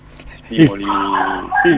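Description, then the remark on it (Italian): A dog gives a couple of loud, drawn-out barks with whiny, yowling tones in between, prominent. “No, il mio cane non è d'accordo, si sente.”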